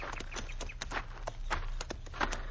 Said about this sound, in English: Get down off your horse, senor. All right. We'll lead our horses over onto that flat, where they'll be in the shade. Come on, Diablo.